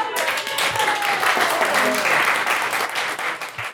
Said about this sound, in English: 42 people who are not the songwriters, give yourself some applause.